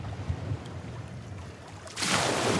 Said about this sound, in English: What is that? Or is that a wave? That's a wave. It's so nice. Is that a wave? It's probably a wave. All right. So that's what it sounds like. It is not peaceful at all. It is not relaxing like that.